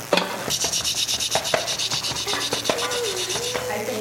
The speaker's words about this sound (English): What's it about? Typing? Typing? No. Oh. No. Pecking. That's it. Who said that? Pecking. That's right. This story is about pecking.